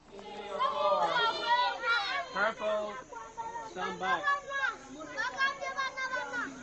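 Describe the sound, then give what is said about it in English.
High-pitched voices of children playing in a play park shout and chatter over one another outdoors, a busy, continuous mix of calls and squeals with no single clear conversation standing out. “You've seen a little bit on the video before, but this just lets you see around the play park and the kids playing on it.”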